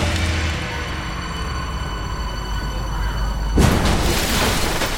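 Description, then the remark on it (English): A swerving bus's engine drones steadily with a whining hum, then a sudden loud crash and heavy rushing splash as the bus hits the water, the churning noise continuing to the end. “Trying to crash into the water!”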